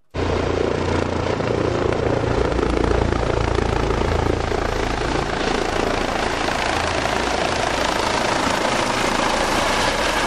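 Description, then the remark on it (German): The DRF Luftrettung rescue helicopter Christoph 44, a Eurocopter, roars loudly as it approaches the landing pad of Klinikum Göttingen, its deep rotor thrum and engine whine holding steady and continuous throughout, with no voices. “Der Rettungshubschrauber Christoph 44 steuert auf den Landeplatz des Klinikums Göttingen zu.”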